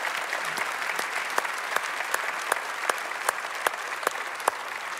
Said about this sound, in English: I think it probably might be appropriate for us to give a round of applause to all of our leaders who actually spend time with high school kids as they go through all kinds of things in their life. Would you do that?